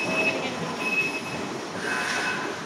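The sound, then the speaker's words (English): An unmanned automated guided vehicle, like a forklift loaded with items and following a programmed map of the floor, rolls past in an Amazon warehouse with a steady mechanical rumble and a thin, high whine that cuts in and out. No one speaks. “It just whooshes by us.”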